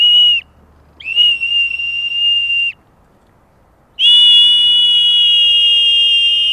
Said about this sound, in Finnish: Näin komiasti 3 pilliä soi. Siinä tuloo jo sitä moniäänisyyttä vähän. Perinteinen soiti.